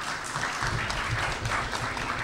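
A church audience claps to welcome a visitor from Zambia, a dense, even patter of many hands at moderate loudness with no pauses for the full couple of seconds.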